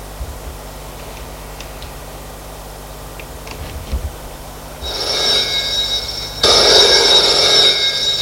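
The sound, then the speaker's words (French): A telephone in an office rings with a bright, buzzing bell tone that starts partway through after a quiet stretch of faint ticks, then jumps louder and continues steadily to the end. No one speaks. “Téléphone sonne.”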